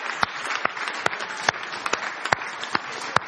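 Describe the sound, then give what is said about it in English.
An audience applauding the people who serve coffee: a dense, steady wash of many hands clapping, with a few sharper, louder individual claps popping out of the mix. No one speaks. “Let's give these folk a round of applause.”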